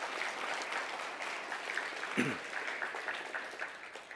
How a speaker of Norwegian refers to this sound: Gi en applaus for Jesus og evangeliet.